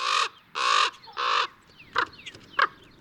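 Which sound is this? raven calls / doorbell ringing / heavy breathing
raven calls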